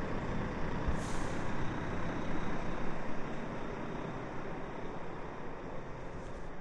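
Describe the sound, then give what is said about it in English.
A large lorry rumbles loudly and steadily, its heavy engine filling the scene, with a short sharp hiss of air brakes near the start. No one speaks. “Sounds like a lorry. Wow, it's huge.”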